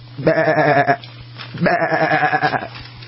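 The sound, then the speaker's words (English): A sheep bleats twice, loud, each wavering cry lasting under a second with a short pause between, over a faint steady low hum. “Bah, bah. Sounds like I got a sheep in the studio.”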